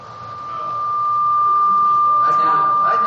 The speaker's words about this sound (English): Do you hear that ringing